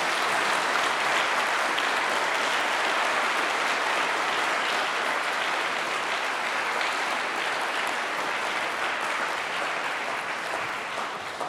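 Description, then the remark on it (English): Sustained applause from a sizable audience, a dense steady wash of clapping that holds at full strength for about eleven seconds before easing slightly at the end. “Let's have a round of applause one more time.”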